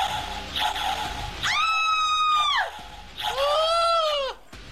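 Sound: scream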